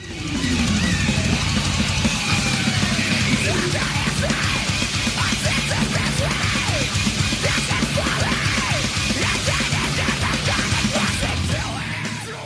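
Harsh screamed metal vocals over a dense, loud wall of distorted instruments, sustained and unbroken from start to finish, aggressive.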